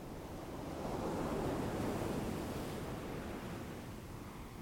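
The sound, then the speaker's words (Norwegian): A single ocean wave rolls in, swelling to a broad, hissing rush around the middle before slowly easing back, steady and continuous with no voices. “Bølgen som kommer inn.”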